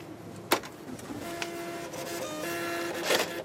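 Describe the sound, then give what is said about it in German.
A supermarket checkout receipt printer whirs out a slip after a card payment, in short mechanical bursts, with a sharp click at the start and a steady buzzing feed tone, ending in a brief rasp as the paper tears. “Kassenbon für Sie?”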